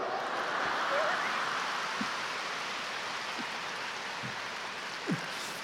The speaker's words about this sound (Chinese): 这个掌声还可以，所以不讲了。